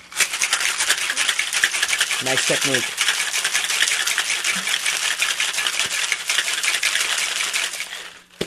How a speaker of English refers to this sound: And then we're going to give it a good shake. And so you're pouring ice into a shaking tin, yeah.